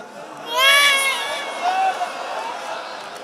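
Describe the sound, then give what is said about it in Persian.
A baby wails in a high, strained cry, loudest in the first second before easing into softer, wavering sobs that continue to the end. “عزیزم جونم یکم آروم گریه میکنید این بچه بخوابه؟”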